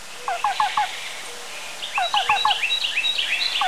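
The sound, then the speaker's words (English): A black-billed cuckoo calls in quick, evenly spaced bursts of three or four soft, hollow cu-cu-cu notes, repeated twice, while other birds sing thin, higher chirps in the background. “The black-billed cuckoo is a more northerly species, living in dense woodland, even conifer forests.”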